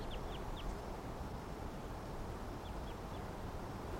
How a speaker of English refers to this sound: Nothing. Wild birds in the background.